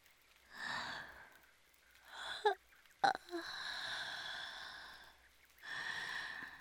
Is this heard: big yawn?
yes